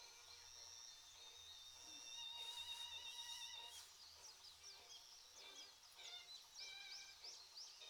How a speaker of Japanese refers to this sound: でも鳥って鳴いてるんですね。いつもいそいそしてて気づきませんでしたけど。